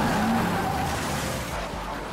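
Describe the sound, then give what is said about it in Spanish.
Paul John Knowles's car skids with a brief, high tire squeal at the start and crashes into a police patrol car on a rural road in Georgia, followed by a steady rumble of engine and road noise, loud, with no voices. “Estrelló su auto contra una patrulla en el camino.”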